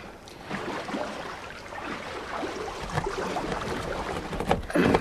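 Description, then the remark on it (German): A small rowing boat is steered through rocks into a small bay, with steady splashing and lapping, ending in a louder burst of water and scraping as it reaches the shore. “Wie du das Boot durch die Felsen steuerst.”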